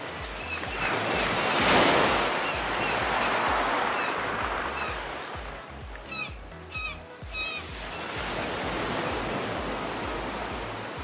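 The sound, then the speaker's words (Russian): Sea surf washes up and drags back over a shore of smooth, cold pebbles of many shapes, a steady broad hiss with a swell near the start and scattered small clicks of stones rattling midway as the retreating waves pull them along. No voices. “Когда волна уходит, она тянет их за собой, и море начинает разговаривать вот этим неповторимым шуршанием.”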